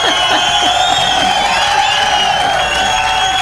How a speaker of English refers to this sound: we already got to give her applause before she even says hello. All right, let's just do that.